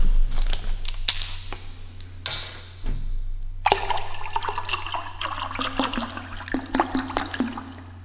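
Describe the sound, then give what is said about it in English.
Milk being poured, a steady splashing, gurgling stream with a brief pause early on, accompanied by light crinkling clicks and a low background hum. “And then there's the milk.”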